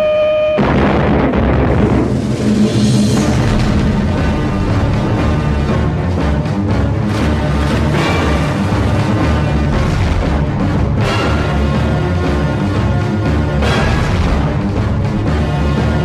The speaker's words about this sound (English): We had sometimes 200 depth charges per hour, and then the lights went out, and water broke in, they had to be fixed.